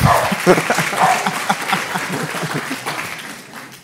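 A crowd breaks into steady, dense applause, many hands clapping together, with a few voices murmuring underneath; the clapping holds strong for several seconds and then gradually thins out.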